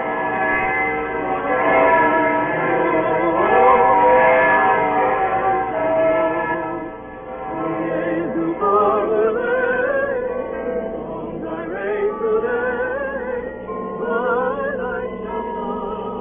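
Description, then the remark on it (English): Evening church bells ring out high up in the Staple Tower on a snowy evening, a continuous, overlapping peal, their tones blending and lingering as new strikes layer over old ones, fairly loud and steady with no voices. “and then hurrying home for dinner in the snow, a as the evening bells began to ring high up in the Staple Tower.”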